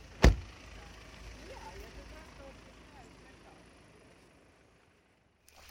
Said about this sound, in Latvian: Mēs izkāpjam no auto, jo tuvāk vairs piebraukt nevar.